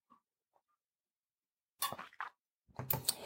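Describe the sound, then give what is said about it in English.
Faint small clicks, then a few louder, noisy bursts of a cup clinking and tea being sipped, with short pauses between them and no talking. “So I'm going to take a drink of my tea while she types.”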